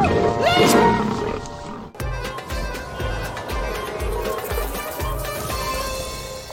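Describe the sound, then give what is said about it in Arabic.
A lion gives one loud roar lasting about two seconds, then it cuts abruptly into upbeat music with a steady thumping beat. “سيب رجلي سيب رجلي سيب رجلي. سيبني شويه يا اسد.”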